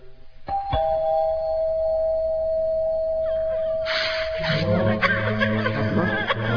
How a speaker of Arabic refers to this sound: ندق الجرس.